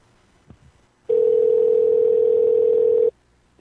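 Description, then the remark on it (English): A steady, unbroken telephone tone after a caller hangs up, a loud mid-pitched hum lasting about two seconds, preceded by a faint click and ending abruptly. No one speaks. “He hung up.”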